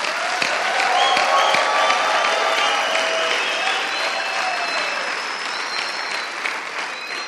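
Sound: audience applause and cheering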